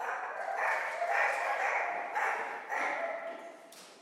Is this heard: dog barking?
yes